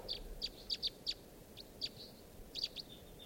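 wild birds calling

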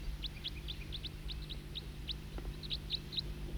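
bird calling

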